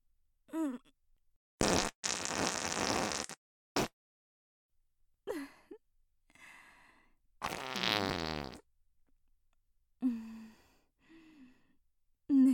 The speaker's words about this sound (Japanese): わかってるわよ。さっきお預けにしちゃったおなら出してあげる。あの時はうんこ漏れそうだったから君にかまってあげられなくてごめんね。相変わらず匂いきついと思うけど。